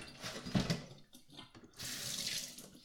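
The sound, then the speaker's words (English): Water runs and drains in a sink, with uneven gurgling splashes at first, a brief lull, then a steadier rushing flow. No one speaks. “stop dripping. I have a lot of stuff in this. Just drain now.”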